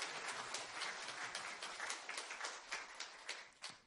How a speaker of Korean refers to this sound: 모두 박수로 축하해 주시기 바랍니다.